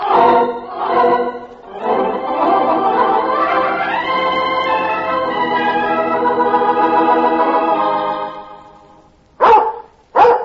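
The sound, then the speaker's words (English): A dog named Mike, told to speak, gives a couple of short yelps, breaks into a long, drawn-out howling bark, then finishes with two sharp, loud barks. No one is talking. “and it's good to be hearing old Mike bark when he thought he was a goner.”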